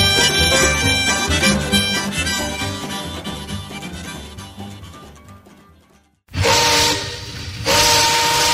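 Music fades out, then a steam train lets off a loud burst of hissing steam with a whistle tone cutting through it, as if pulling away.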